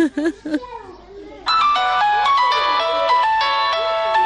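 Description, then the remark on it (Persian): A mother's mobile phone rings with a call from an unknown number: a bright, repeating electronic melody, loud, starting after a brief stretch of a child's voice talking. “تو بتی موبایلم؟ اینه بگی مادر. این خوش شماره ناشناس است، خدا میدانه که کی باشه.”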